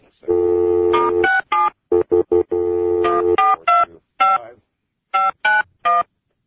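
A phone number being dialed to call a guest in Seattle during the locker room show: a long steady tone, then a quick run of short touch-tone beeps in stepped pitches, with pauses between bursts and no talking.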